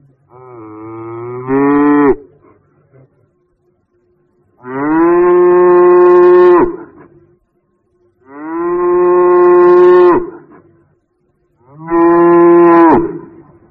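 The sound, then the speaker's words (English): A cow moos four times, loud: a short rising call, then three long, drawn-out moos separated by brief pauses, with no other voices. “I hear a cow.”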